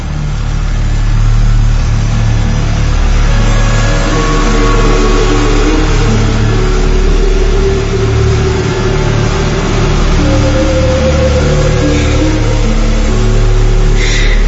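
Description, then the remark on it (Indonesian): A vehicle engine hums loudly for the whole stretch, its pitch climbing in rising sweeps as it speeds up and drives away, with a steady low rumble underneath and no voices. “dia malah menambah laju kecepatannya dan pergi meninggalkan aku dan Hadi”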